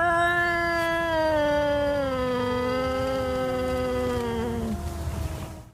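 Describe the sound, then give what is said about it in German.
A cat lets out one long, drawn-out yowl with low, slowly falling tones, loud, fading out at the end with no voices present. “Und die tiefen, fallenden Töne bedeuten, dass die Katze groß und aggressiv wirken will.”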